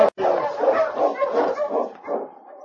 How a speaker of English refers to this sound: When he heard the sound of an approaching dog team, Frank Morris looked out the window of the shack he shared with his partner.